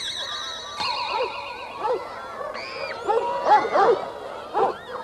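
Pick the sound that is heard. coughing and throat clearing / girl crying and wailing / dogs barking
dogs barking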